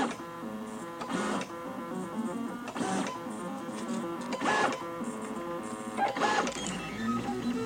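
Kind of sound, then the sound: machine, 3D printer printing circles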